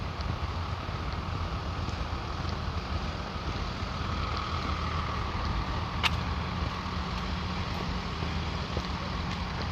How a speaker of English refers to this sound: School bus waiting here.